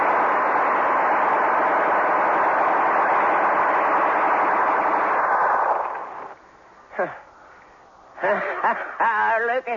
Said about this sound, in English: I never seen nothing like it. Gatling guns can wipe out an army.